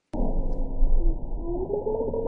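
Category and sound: animal, bowhead whale vocalization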